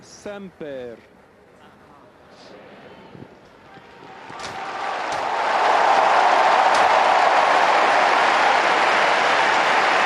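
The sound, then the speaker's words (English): A brief voice at the start, then a large crowd in St. Peter's Square cheers after the new Pope's blessing; the cheering swells from a low murmur into a loud, sustained roar that holds steady to the end, with occasional sharp whistles or shouts poking through. “A huge cheer behind us in the square below.”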